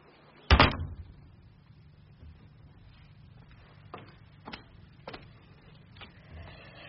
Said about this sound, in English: She threw open a door as she spoke.